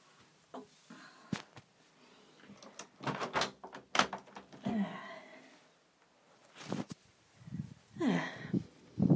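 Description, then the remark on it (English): A door is pushed shut, followed by a series of sharp clicks, clunks and scraping rattles as it is latched and locked, with some handling noise in between. “Let's go and lock the door.”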